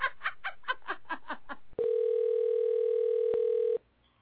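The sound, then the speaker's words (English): A phone call rings unanswered: a rapid run of about eight short, choppy pulses gives way to a single steady, buzzy electronic ring tone that holds for about two seconds, then cuts off into quiet. “Pick up the motherfucking phone.”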